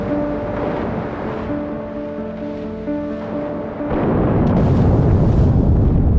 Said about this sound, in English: HMS Batard and three other warships are on the scene by 10 a.m. and spend the next 10 hours hunting and depth-charging the U-boat.